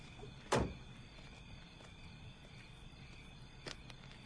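A single sharp car door clunk near the start as a man climbs out of his parked car behind a salon, followed by quiet outdoor ambience and one fainter knock a few seconds later, with no clear run of footsteps.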